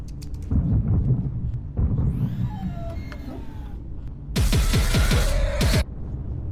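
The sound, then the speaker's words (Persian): A loud burst of rapid weapon fire from angels' weapons, a quick string of sharp shots over a low rumble, follows a stretch of rumbling and whining, sweeping tones. No one speaks. “صدای شلیک فرشتگانه، سلاح برادرانم.”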